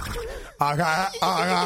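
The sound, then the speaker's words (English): A man's voice imitates a horse, making two drawn-out, wavering whinny-like calls, loud, after a brief low murmur at the start. “You know it's a good day when …'s making horse sounds”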